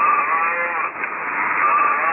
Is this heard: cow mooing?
yes